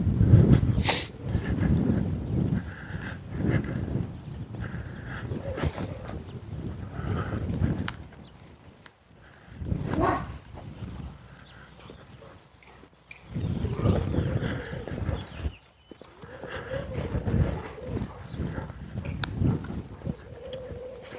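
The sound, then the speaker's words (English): Dogs vocalize in repeated rough bursts, growling and barking in uneven clusters with short gaps between, moderately loud against a quiet outdoor background. “Dogs. Dog day.”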